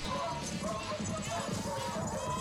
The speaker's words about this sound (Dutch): En hoefgetrappel.